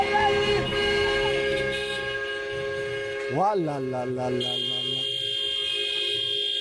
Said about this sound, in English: Cars honk their horns furiously on Mombasa Road, one of Nairobi's largest main streets.